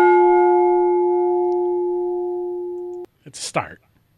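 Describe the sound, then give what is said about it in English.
A single bell-like tone from a played bell sound effect rings out clearly with steady overtones, fading slowly for about three seconds before cutting off abruptly, followed by a short burst of a voice. “But, yeah, I think it's important that we do get some sort of bell here.”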